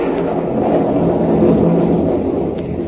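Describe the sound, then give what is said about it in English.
Heavy rain pours down on a park at night in a steady, dense hiss, with a deep rumble of thunder rolling underneath throughout. No voices are heard. “Not with all this rain coming down. Yeah. Oh, it's really pouring now, isn't it?”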